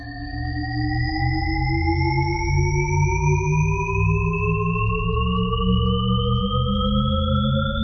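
A Shepard tone illusion: stacked tones glide steadily upward for the whole stretch, seeming to rise endlessly without ever getting higher, over a low rumbling hum, loud and continuous with no voices.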